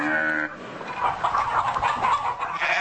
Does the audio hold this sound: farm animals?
yes